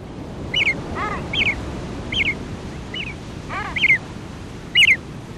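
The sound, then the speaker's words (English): Seabird chicks at sea, accompanying their fathers upon the waves, give high, piping calls about six times at a steady pace over a constant low wash of water noise, with two lower, falling calls mixed in. “Listen to the calls of the chicks as they accompany their fathers upon the waves.”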